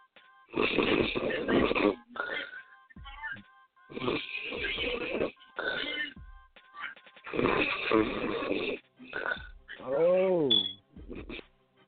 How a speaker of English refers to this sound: Oh. Is that somebody snoring? It sure was. They fell asleep listening to the show.